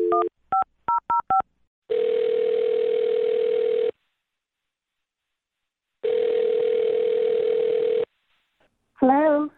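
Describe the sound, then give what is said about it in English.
A quick run of about five touch-tone keypad beeps as a phone number is dialed on the radio show Brooke and Jubal in the Morning, then a steady electronic phone tone sounding twice in long two-second stretches separated by silence, before a voice briefly starts at the end. “Well, I'm going to dial her phone number right now.”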